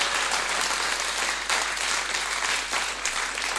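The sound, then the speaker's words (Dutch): An audience applauds the Lord steadily for several seconds, a dense wash of many hands clapping at once, fairly loud, with no voices breaking through. “En mag ik een applaus voor de Heer en voor zijn geweldige beloftes.”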